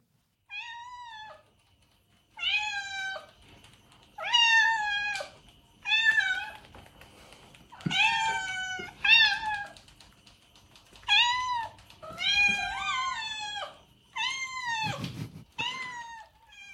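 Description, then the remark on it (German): A cat meows repeatedly, roughly a dozen drawn-out, insistent cries in irregular bursts, fairly loud, with short pauses between them and no talking. “Nee, ich habe euch eine Katze mitgebracht,”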